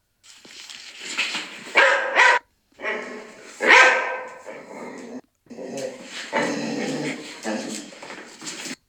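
A border collie–dalmatian mix dog barks and whines in several drawn-out, vocal bursts separated by short pauses, fairly loud, with no other sounds around it.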